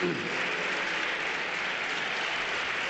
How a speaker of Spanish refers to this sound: Gracias, señor candidato. Aplauso de sus diputados, como no podía ser de otra manera.